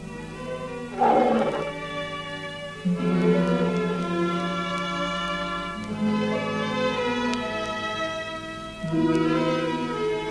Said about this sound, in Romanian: Tigrul Rajah a urlat sinistru noapte, marcând plecarea lui Fram de la circul Struțchi.